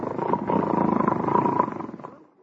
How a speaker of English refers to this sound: How do you like that? I really must be tired. I ain't asleep, but I was snoring already.